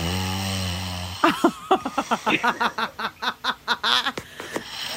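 A recorded fart plays back: a steady, low buzzing tone for about a second, then a rapid sputtering run of a dozen or more flappy pops, fairly loud, with no talking.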